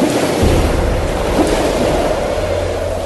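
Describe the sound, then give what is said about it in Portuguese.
A strong wind roars steadily over churning, rising waves on the water after dark, as disciples row a boat toward the town of Capernaum; a loud continuous rush with a deep low rumble underneath, no voices, lasting the whole few seconds. “De repente, um vento forte começou a soprar e a levantar as ondas.”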